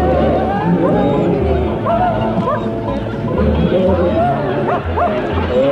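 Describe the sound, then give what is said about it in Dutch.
A shepherd's dog barks and yips repeatedly amid a noisy crowd, its calls tangled up with a steady babble of many voices talking at once, with sheep heard in the background. “Hoor je die hond van hem, die was leuk.”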